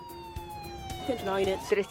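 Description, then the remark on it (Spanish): Sirens of a police patrol car and an ambulance responding to an emergency at the University of Miami wail steadily with a slowly falling pitch, while a voice speaks faintly underneath toward the end. “Una patrulla de la policía y una ambulancia acuden a la escena.”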